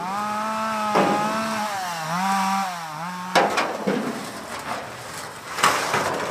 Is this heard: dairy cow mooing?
no